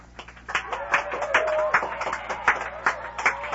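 A small group claps in a loose, uneven rhythm of sharp hand slaps, with a sustained voice-like whoop rising over the applause midway through.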